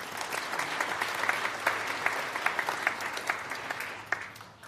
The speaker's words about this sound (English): Okay, guys, have a seat. Round of applause.